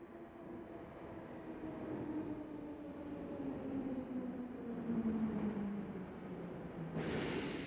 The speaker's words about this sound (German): In diesem Moment fuhr die U-Bahn in die Station ein und die Wartenden drängten vorwärts.